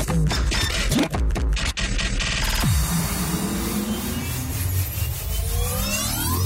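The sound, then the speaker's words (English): A printer jams with loud, continuous mechanical grinding, a burst of rapid clattering and knocking early on, then a strained whirring drone that wavers in pitch until the end. No one speaks. “Printer. Jam.”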